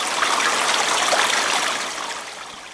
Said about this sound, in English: But I'm just saying, you hear that, and it just seems to be something positive. One of the images that comes to my mind is getting someplace and pouring some nice, clean, fresh water that I can just take my time and enjoy.